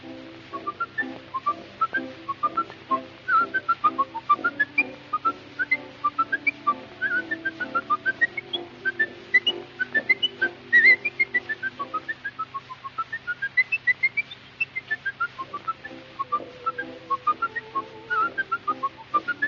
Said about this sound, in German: Noch einer pfeift drauf. Und zwar ohne Instrumente und doppelten Boden.